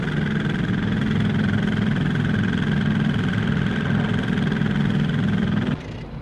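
A heavy drilling rig engine runs steadily with a loud, droning hum and constant vibration, its tone holding level before it drops off abruptly near the end.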